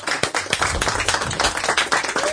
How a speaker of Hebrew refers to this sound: פה, כן, חבר'ה, אני רוצה 25 שניות של כפיים, בלי הפסקה, נצדיע להם. לא להפסיק.